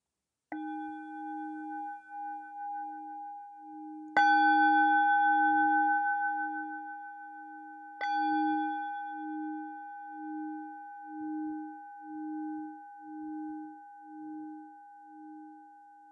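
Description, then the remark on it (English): A meditation bell is struck three times at the start of a meditation, a few seconds apart, each strike adding to a pure, shimmering tone that hums with a slow, pulsing waver and lingers, fading gradually with no voices. “So as you're settling down into your chosen posture, just let the sound of the bell float over you.”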